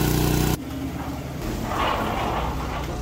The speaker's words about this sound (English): This thing has been charging all night, and that's sort of how the car sounds outside of the hotel every night, and that's why I park kind of far away so the noise doesn't really disturb the people in the hotel.